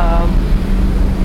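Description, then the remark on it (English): A steady, low rushing roar of ocean waves heard from the vehicle deck of a ship, continuous and fairly loud, with a deep droning hum running underneath throughout. “Oh my gosh, can you hear it? You can hear the ocean.”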